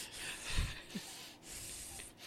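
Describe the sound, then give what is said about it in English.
A person imitates the heavy, wheezy regular breathing of a chunky golden retriever: raspy, breathy rushes of air with a low snorting burst near the start, continuing in rough, rubbing gusts without any speech. “I swear to God, you guys have to hear this obese dog. I can recreate it.”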